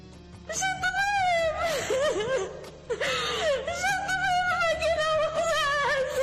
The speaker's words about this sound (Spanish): Es el llanto de una madre embarazada buscando ayuda en el hospital. Las imágenes muestran que los pasillos están vacíos, parece un edificio desierto.